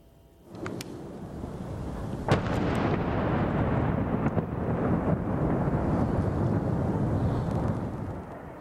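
impact, explosions

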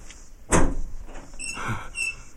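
household object, door being opened

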